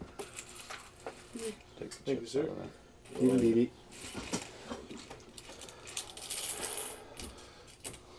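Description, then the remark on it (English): Small blue and red plastic board-game chips clatter and scatter in a string of quick, uneven clicks, with brief voices murmuring underneath. “Look at the chips. spread about.”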